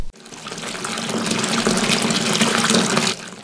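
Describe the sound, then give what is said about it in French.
Water gushes steadily from a tap into a bathtub, a dense, hissing rush that starts abruptly, holds at an even level for about three seconds, then cuts off. “Celle qu'Archimède a découverte en prenant son bain.”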